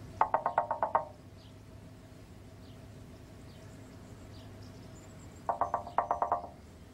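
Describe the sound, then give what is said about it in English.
Light, quick knocking on a car window in the film Two Hands, as the character Jimmy delicately knocks on the window of driver Craig, in two short bursts of about six taps each, separated by a pause, with a low steady rumble underneath and no talking. “The confusion of driver Craig, played by Kieran Darcy-Smith, as Jimmy delicately knocks on the window, simply never gets old.”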